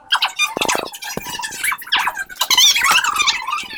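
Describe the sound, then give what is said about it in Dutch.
A phone ringtone plays at a school pupils' organisation, a loud, chirpy run of warbling high-pitched tones with squeaky, bird-like slides that carries on without pause and with no one talking over it. “Dus de telefoon gaat bij mij af.”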